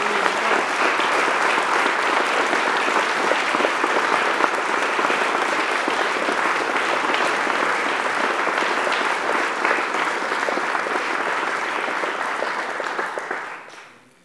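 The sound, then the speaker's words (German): A sustained round of audience applause thanking two people for their commitment, dense and steady clapping at a loud level for about thirteen seconds before fading out quickly at the end. No voices are heard. “Und ich denke, dass das jetzt nochmals ein kräftiger Applaus wert ist.”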